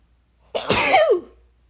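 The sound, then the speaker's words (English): A single sneeze bursts out, a sharp, breathy blast with a brief voiced tail, followed by quiet. No talking. “Hold on, I'm gonna sneeze.”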